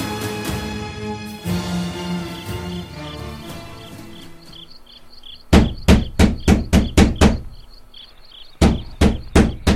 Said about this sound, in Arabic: من الطارق؟ يا أبا الأديان، هلم وافتح الباب.